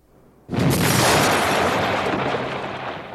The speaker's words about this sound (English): At 4:37 p.m. on the 12th of December 1969, a bomb exploded at the headquarters of the National Agrarian Bank in Milan's Piazza Fontana.